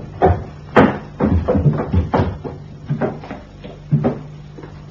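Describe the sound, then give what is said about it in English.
A series of wooden clunks and rattles as doors are pulled against their latches and found locked, repeating in uneven bursts with short pauses between. “Door's all locked.”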